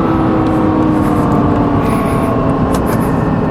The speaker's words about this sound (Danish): Der er så meget fart i sådan en bil som denne her. Og der er kun én til at styre det. Det er mig og min højre fod.